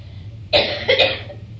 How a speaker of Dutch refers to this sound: Dan, u mocht kuchen, het zij het overtuiging, het zij het noodzaak, het maakt helemaal geen verschil. Er is geen kritiek hoor.